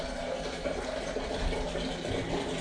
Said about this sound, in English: So I should just put some water in my pot.